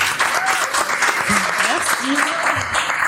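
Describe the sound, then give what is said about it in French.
A crowd applauds steadily for an artist being introduced, a dense, sustained patter of many hands clapping, with a few voices calling out and cheering over it throughout. “je vous demande s'il vous plaît une pluie d'applaudissements pour Chloé Weinfeld”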